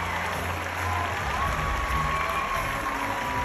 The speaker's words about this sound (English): So here is the crowd giving Will Smith a standing O. Wild cheering.